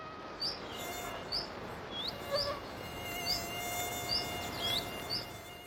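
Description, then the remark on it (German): A thin, steady mosquito whine hums continuously, fairly quiet, while short high bird chirps repeat every second or so against a faint hissing outdoor background in summer. No one speaks. “Sie summen, kommen näher und lassen sich fast nicht merkbar auf uns nieder.”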